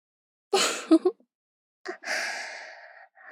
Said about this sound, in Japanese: もう、吐息かかる。 こら、おまんこに息かけないの。